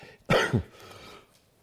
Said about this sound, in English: I'm trying to figure out how to cough not to make too much noise here.